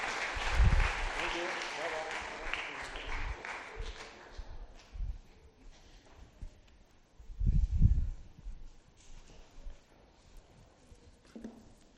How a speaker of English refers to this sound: Brilliant. You did really well there. Shall we give them a clap? Give you a clap. Thank you.